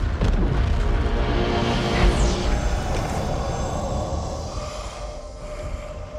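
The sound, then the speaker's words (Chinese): Loud, continuous booming rumble of cannon fire and exploding ships, dense and chaotic throughout, with a sharp crack and rising burst around the middle before the roar slowly eases off, as cannons are turned to sink two ships. “这艘船要爆炸了，我们得赶紧离开。 把大炮转过来， 将这两艘船都击沉到海底。”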